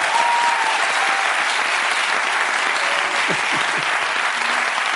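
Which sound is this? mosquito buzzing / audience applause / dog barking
audience applause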